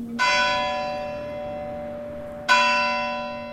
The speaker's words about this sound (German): Nach dem Glockenschlag zur vollen Stunde wirkt die Stille noch stiller.